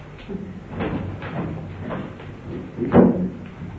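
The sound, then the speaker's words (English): A door being opened, with a few soft knocks and handle rattles followed by a louder clunk near the end as it swings free. No one speaks. “Chris, will you open that door?”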